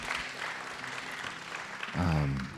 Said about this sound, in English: Let's give a hand clap to the Lord this morning.